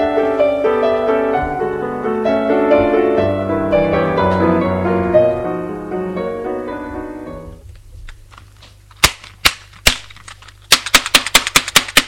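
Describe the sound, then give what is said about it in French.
Gentle tonal music plays, then fades out, followed by a few sharp, loud knocks and then a rapid, forceful burst of pounding on a bedroom door. “Tout à coup, il entend des coups violents sur la porte de la chambre, ce qui fait sauter et réveiller Ferdinand”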